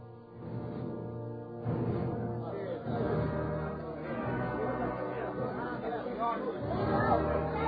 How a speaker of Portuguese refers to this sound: Pilatos caminha receoso até uma das amplas janelas do edifício e encara a multidão ensandecida na praça.